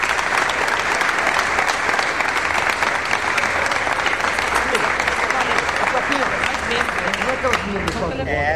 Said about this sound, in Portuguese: …, uma salva de palmas pro compositor.